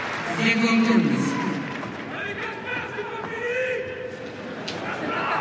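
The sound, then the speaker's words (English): A large tennis crowd roars and shouts together after a point, a loud, sustained wash of many voices with individual yells rising out of it, continuing steadily throughout. “Well, the crowd already starting to try and get involved.”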